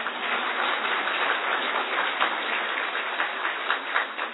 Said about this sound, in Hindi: आज पहले दिन खूब तालियां बजाओ जितनी चाहिए।